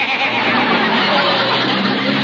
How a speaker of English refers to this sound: Darn car would have to embarrass me at a time like this. My, my, what a noisy car.